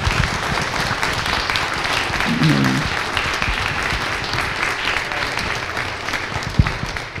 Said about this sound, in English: Thank you all. I think a round of applause is appropriate.